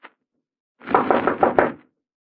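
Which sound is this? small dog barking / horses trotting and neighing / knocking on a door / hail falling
knocking on a door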